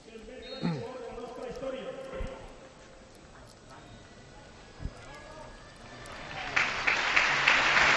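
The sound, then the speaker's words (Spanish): A man talks over a low crowd murmur, then Valencia CF fans at Mestalla stadium break the minute of silence for Baldo Machado with loud, sustained applause in his memory that swells and fills the final seconds. “Rompe la afición del Valencia Club de Fútbol el minuto de silencio con este aplauso en memoria de Baldo Machado.”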